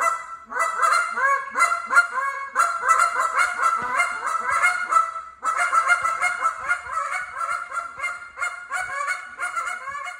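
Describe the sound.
A goose call imitates a flock of Canada geese at this year's Wisconsin Waterfowl Association's Duck and Goose Calling Championships, with rapid overlapping honks and single and double clucks in a busy, continuous chorus, fairly loud, with a brief pause midway.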